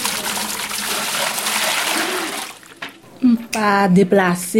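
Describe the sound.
Water sloshes and splashes steadily for a few seconds as it is scooped up from a cistern, then the splashing stops and a person starts talking.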